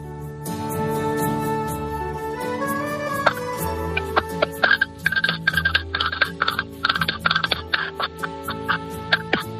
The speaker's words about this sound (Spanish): Bueno, pero somos conscientes de la situación que es 4:47, 3:47 en Canarias, estás en una casa, estás con un teléfono, estás sonando en la radio en directo y estás con unas castañuelas.